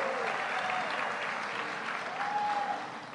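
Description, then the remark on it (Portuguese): Loud, sustained audience applause for Governor Jerônimo Rodrigues, a dense steady clatter of many hands clapping that holds for about three seconds before easing slightly at the end, with a faint whistle cutting through. “Saudar e pedir uma salva de palmas a esse governador que trabalha de domingo a domingo, Jerônimo Rodrigues.”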